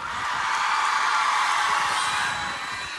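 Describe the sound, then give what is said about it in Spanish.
A large audience at a live band performance shouts and whoops continuously, a dense, loud roar of cheering voices that holds steady for a few seconds before easing slightly at the end. “Yo también grito como ustedes, por dentro, sí, no puedo.”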